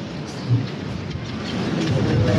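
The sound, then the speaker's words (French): Strong gusts of wind at Canet-en-Roussillon roar steadily across the whole clip, a dense low rumble with broad hiss above, swelling slightly louder toward the end. No one speaks. “qui est à Canet, en Roussillon, avec ces rafales de vent, ce vent, on voit cette fumée, ce panache de fumée noire derrière vous”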